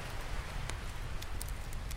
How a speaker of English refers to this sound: The night is also made more pleasant for you, more calming, as you hear the sound of the waves on the shore and the crackling of a fire next to which you are sitting.